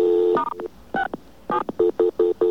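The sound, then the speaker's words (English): A rapid series of electronic keypad tones from a phone dialing *67 to block caller ID before calling an OmniPoint phone. There are about nine short beeps in uneven bursts, each a steady dual-pitched tone with brief gaps between, and no voices. “We very distinctly dialed *67 first to block the number.”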